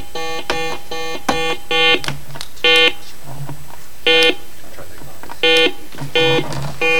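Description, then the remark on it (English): A series of short, bright electronic beeps from quiz buzzers pressed one after another during a buzzer check, some in rapid bursts, with faint voices murmuring underneath. “Can we just do a buzzer check? Yeah, let's do a quick buzzer check, sir.”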